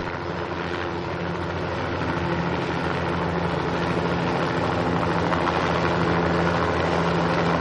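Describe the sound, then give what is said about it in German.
A rescue helicopter's engine roars steadily and loudly, a dense continuous drone with a low hum underneath that stays constant throughout. “Endlich kommt ein Hubschrauber und rettet sie.”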